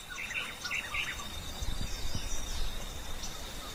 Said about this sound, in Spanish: Yo escucho, pará, pájaros. Sí. ¿Vos? Pájaros. Agua. Pájaros.